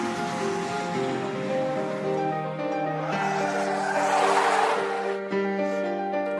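A car brakes hard, its tires letting out a long, loud squeal over a rushing, rumbling roar that holds steady for several seconds before easing off.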